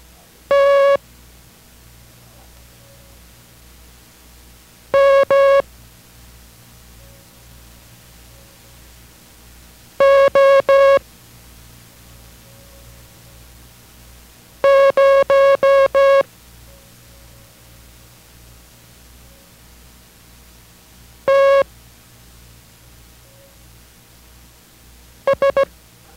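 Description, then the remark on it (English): Morse code characters for copying practice, tear, Mike, oboe, zero, tear and sugar, keyed one at a time as a steady, buzzy mid-pitched tone in short bursts, separated by pauses of several seconds, over a faint low hum. No one speaks. “Those characters were tear, Mike, oboe, zero, tear, and sugar.”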